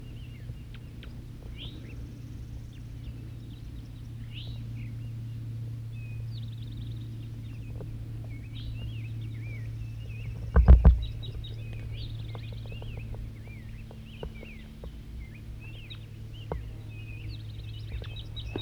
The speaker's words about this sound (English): Another wild bird, another male's coming in. Wild bird singing.